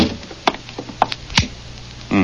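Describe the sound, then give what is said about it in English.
A few sharp clicks and knocks, ending in a heavier thud as a door at McVeigh's house is pushed shut, with faint shuffling between and a low murmur starting at the very end. “Well, close the door.”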